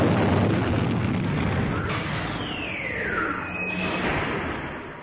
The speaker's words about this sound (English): An explosion reverberated through the facility, and the computer monitors inside the conference room went blank.